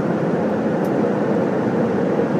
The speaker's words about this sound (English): The ambient sound is the rumble of the aeroplane. To be exact, we are now over the Labrador Sea.